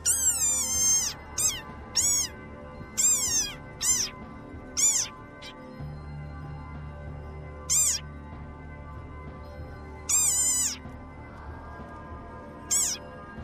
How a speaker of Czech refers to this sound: U pustinji Namib živi pustinska žaba, vrlo neobičnog kreketa. Pa poslušajte.